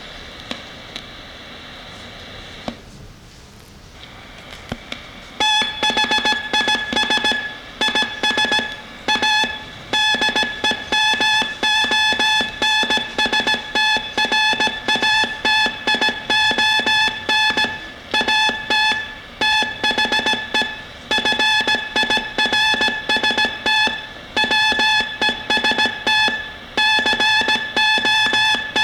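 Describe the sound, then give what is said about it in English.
Morse code sent at a steady 15 words per minute, generated from a keyboard and sent through a code practice oscillator, a bright, high-pitched tone keyed in short dots and longer dashes, loud and alone after a few seconds of hiss. “If you can remember the days when you could copy 15 words a minute.”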